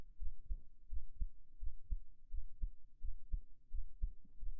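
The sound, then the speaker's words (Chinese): A muffled heartbeat heard through the chest, its low lub-dub thumps repeating in a steady, fairly quick rhythm with a soft rumble underneath and no voices. “这是我为你而存在的心跳听清楚了吗？”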